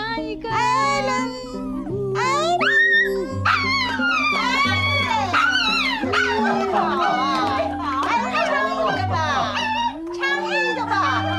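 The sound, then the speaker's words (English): Ellen, a real dog belonging to the aunt in a movie, yips, whines and barks almost nonstop in rising and falling cries, loud, with steady music playing underneath. “Ellen the dog has something to say.”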